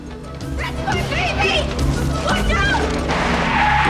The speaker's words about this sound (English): Cars screech to a halt, and someone falls off their bike as the pram wildly rattles off the road and back onto the pavement.